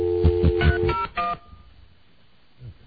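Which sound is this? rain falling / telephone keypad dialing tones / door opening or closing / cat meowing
telephone keypad dialing tones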